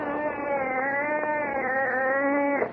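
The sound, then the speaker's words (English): A wildcat, brought in for a cat food commercial, lets out one long, unbroken yowl, loud and steady in pitch with a rich, nasal harmonic tone, holding for nearly three seconds before cutting off abruptly. “Bring a $20,000 right on this commercial, and you bring a wildcat in here.”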